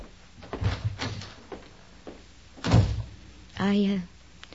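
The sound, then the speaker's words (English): A door to the kitchen is opened and shut: a few wooden knocks and rattles, a solid thud midway, then a short, squeaky creak of the hinges near the end. “Right through that door to the kitchen.”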